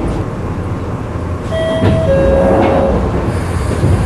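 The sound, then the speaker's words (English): A London Underground Northern Line train bound for Morden rumbles steadily with a loud, dense low-frequency roar, while sustained metallic tones from the wheels or motor whine and squeal above it, with no voices present. “This is a Northern Line train terminating at Morden.”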